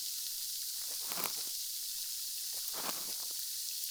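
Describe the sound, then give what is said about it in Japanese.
A steady, bright crackling sizzle of popping inside the ear fills the whole stretch, swelling into two stronger popping bursts roughly a second and a half apart, with no voices. “耳の中で何か弾けるなんて、まあ普通に生きてたらあるはずないですから。”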